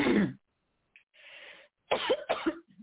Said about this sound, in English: I got a little cough right there, but thank you for bearing with me.